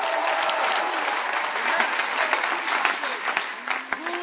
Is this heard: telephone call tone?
no